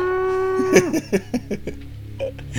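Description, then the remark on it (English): A cow moos loudly, a long drawn-out low note that breaks into a quick run of short, choppy lowing bursts, with no talking. “Oh, I love all these wacky cows that are always running around in here.”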